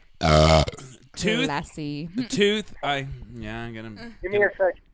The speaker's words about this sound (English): Hold on, I got a burp.